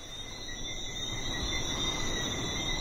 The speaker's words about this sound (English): And when it gets dark out, it's so tranquil. There's just the sound of the breeze and these little frogs that come out at night and chorus all over the island. They're so loud that I can hear them through the phone when I'm talking with my parents.